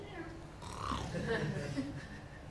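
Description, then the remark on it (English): A person's voice imitates a pig, making a low, guttural grunting sound that rumbles on for a couple of seconds, fairly loud. “That's a pig.”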